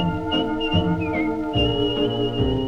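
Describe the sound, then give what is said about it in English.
A person whistles a bright, wavering tune with sliding notes, loud, carried over steady instrumental accompaniment with rhythmic plucked accents. “You ask him why and he'll say, I'm whistling my worries away.”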